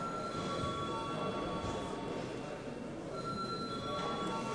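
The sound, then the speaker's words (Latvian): The chamber bell of the Latvian Saeima rings steadily for several seconds before deputies vote on sending a bill to committees, a loud, continuous metallic rattle with a sustained high tone and no break or voices over it. “Lūdzu zvanu.”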